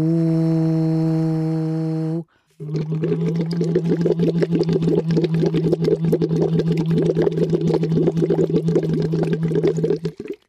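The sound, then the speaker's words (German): A steady hummed voice, first plain, then blown through a tube into water after a brief pause as a voice exercise, turning into rapid, continuous bubbling under the sustained tone, fairly loud. “schaust, dass dein Kinn im 90-Grad-Winkel zu deinem Hals ist, also einfach eine schöne, aufrechte Kopfhaltung und dann blubberst du einfach drauf los, so.”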